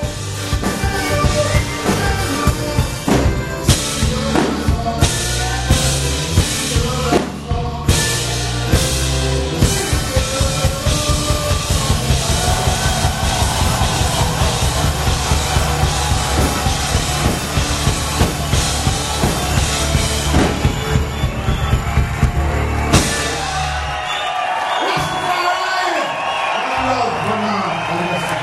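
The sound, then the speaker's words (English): A rock and roll concert audience in Marseille cheers and shouts continuously and loudly at the end of the show, with dense crowd noise, rising voices, and what sounds like rhythmic clapping or stomping throughout, fading slightly near the end. “If you want to listen to the reaction in the audience in Marseille at the end of the show, come on!”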